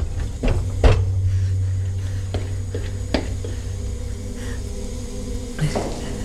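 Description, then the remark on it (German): A heavy cold room door is shut with a solid clunk, followed by a few softer knocks and rattles over a steady low mechanical hum. “Die Tür nicht zuschlagen, nicht zuschlagen.”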